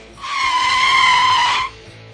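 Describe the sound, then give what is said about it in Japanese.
A loud, sustained tire screech of a motorcycle skidding as it swerves from the travel lane into the passing lane on a highway, holding one high shrill pitch for about a second and a half before cutting off abruptly. No impact follows, and no voices are heard. “そんな、ある日のハイウェイ、走行車線から追い越し車線に飛び込んだヒロシ。次の瞬間、ヒロシとマシンが宙を舞った。”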